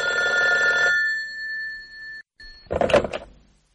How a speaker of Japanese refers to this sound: 主任、お電話です。